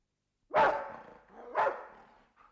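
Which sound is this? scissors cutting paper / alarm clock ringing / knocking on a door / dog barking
dog barking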